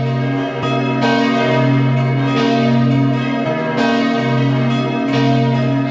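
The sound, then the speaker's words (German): Several church bells of the Church of St. Sebastian in Hart, Vorarlberg, peal together at noon in a dense, continuous ringing, their overlapping strikes and sustained harmonic tones filling the space loudly and steadily, with no voices present. “Sie hören die Glocken der Kirche zum heiligen Sebastian in Hart in Vorarlberg.”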